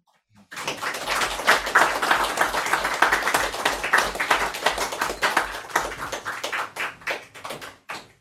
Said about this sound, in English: I like that you can't tell when they're done until I smile at you and then you all clap. So thanks for humoring me.